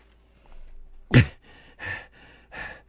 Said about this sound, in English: What are you breathing hard for? What, are you looking at a dirty picture?